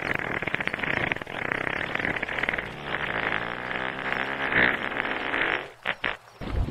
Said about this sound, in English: What happens if you light one of their farts? Actually, humpback whale farts are so powerful, you can light them underwater.